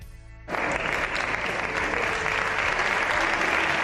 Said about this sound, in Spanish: Estos son los aplausos que ha recibido por parte de PSOE y de Podemos Sánchez al entrar en el Congreso. Le aplaudían por el acuerdo que se ha logrado en Europa, por las ayudas que va a tener España.